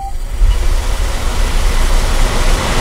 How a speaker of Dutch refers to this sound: Daarom laten we je even tot rust komen met het gezoem van deze robotstofzuiger.